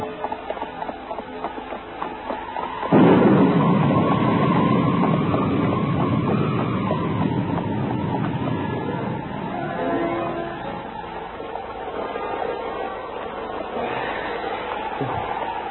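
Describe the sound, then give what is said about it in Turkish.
A stormy roar of wind and thunder bursts in after a few seconds of low rumble, then holds as a loud, dense, steady wash that slowly eases toward the end, with no voices. The weather is very cold and the storm is about to turn to snow. “Bastırdı. Evet bastırdı. Birazdan kara çevirir.”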